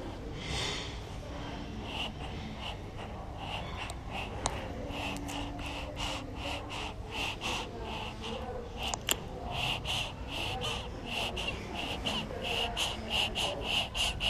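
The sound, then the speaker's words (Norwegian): A five-minute-old newborn baby's quick, snuffly breathing: a steady run of short, raspy breaths and little snorts repeating throughout, with no talking. “Det var pusten til en 5 minutter gammel”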